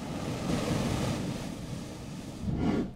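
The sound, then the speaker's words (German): Waves surge and slap against a rock cliff in Oman, hollowed out for about 20 metres, a broad rushing roar with a heavier splash near the end, wind buffeting over it; no voices. “Man hört richtig, wie die Wellen unten so dagegen klatschen.”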